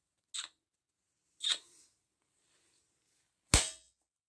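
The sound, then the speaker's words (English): Three sharp, crisp slaps of a hand against cheeks, spaced a second or two apart, with the final smack the loudest. No voices. “I think you should slap my cheeks a little.”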